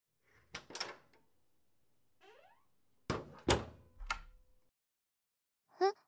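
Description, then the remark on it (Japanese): A toilet stall door in a boys' toilet of an old school building swings and shuts with a couple of solid thuds, followed by a short metallic click and rattle as its lock is turned, with no one talking. “ほら、ちょうどこの中、鍵がかかります。”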